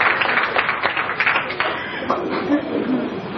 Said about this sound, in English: And that was me saying, walk the walk, don't just talk the talk. Again, it was said in the middle of clapping, and I regard it as the same kind of a comment that some people react with clapping